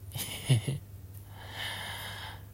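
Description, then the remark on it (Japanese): Two breathy exhalations: a sharper, louder huff at the start, then a longer, softer rasping breath after a brief pause. There is no speech and only a faint low hum underneath. “吐息漏れてるし、息荒くなってるよ。”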